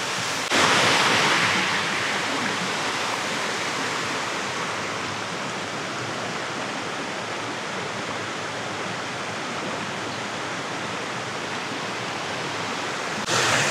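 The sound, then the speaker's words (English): Rushing cold stream water roars steadily, a dense, unbroken hiss and churn that holds at the same loudness from start to finish, with no voices. “Cold dip. Cold plunge! That is some Northern California level water.”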